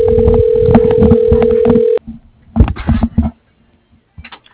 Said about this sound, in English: For some reason, I'm gonna call twice in a row on the same lead. This timer doubles. It's weird.